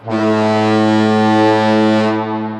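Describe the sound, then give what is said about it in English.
A single long, deep ship foghorn blast holds one steady low pitch with rich buzzing overtones, loud and unbroken for over two seconds before it tapers off. “We can't volunteer to put a foghorn on our house.”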